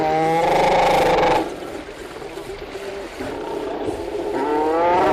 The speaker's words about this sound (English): Sounds of a seal rookery on St. Paul Island. The recording's part of an audio archive from Cornell University.